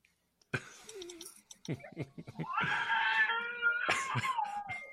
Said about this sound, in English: showing off his baby screaming.